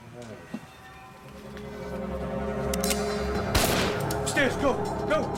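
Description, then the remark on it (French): A single sharp gunshot, fired inside the building of the Yugoslav mission to the United Nations in New York, cracks out about two-thirds of the way through, a loud, brief burst rising over a steady, dense bed of sustained tonal sound. “Des policiers qui avaient entendu le coup de feu se précipitèrent à l'intérieur du bâtiment.”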